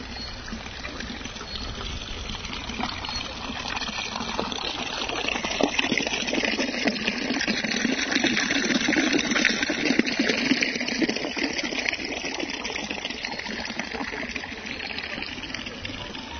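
Water babbles and murmurs steadily from a fountain in a park, a continuous bright splashing flow that stays even in loudness throughout, with no voices.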